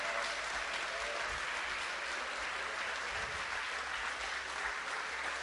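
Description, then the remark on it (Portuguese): An audience claps together to applaud the Lord in sustained, dense applause that stays steady and fairly loud throughout, with no voices standing out above the clapping. “Glória a Deus, louvado seja o nome do Senhor, louvado, você pode aplaudir o Senhor, agradecer.”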